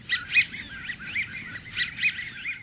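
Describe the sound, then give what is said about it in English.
A flock of American wigeons gives squeaky, rubber-ducky whistles, overlapping in bursts of two- and three-note calls over a low, steady rumble, with no talking. “These rubber ducky sounds come from a flock of American widgeons, trim brown ducks with pale blue bills and big white wing patches.”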